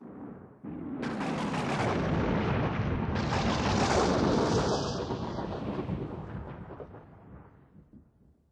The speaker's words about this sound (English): One evening in July, there is a big storm.